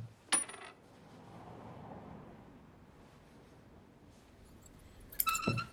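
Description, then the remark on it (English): A few loose coins clink sharply near the start as a man searches through his pockets, then a quiet rustling stretch follows before another bright jingle of coins at the end, fairly crisp with no voices. “searches through his pockets, but finds only a few coins, enough for just 3 sausages.”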